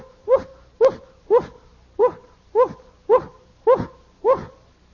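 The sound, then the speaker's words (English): A voice imitates a Chihuahua's yappy barking: nine short, sharp woofs in a steady, even rhythm, about two per second, loud with nothing else in the background. “And the Chihuahua was running up down the fence, inside the fence, going, woof, woof.”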